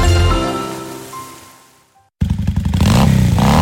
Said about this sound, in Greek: Αν σας αρέσει αυτός ο ήχος και αγαπάτε τις μοτοσικλέτες, τότε δεν πρέπει να χάσετε το CVC Motorcycle Festival στις 11 και 12 Οκτωβρίου.